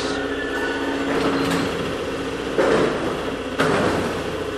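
A Paris Métro train rumbles steadily into a station, a low mechanical drone with faint squealing tones and two sharp clanks near the end, with no one talking.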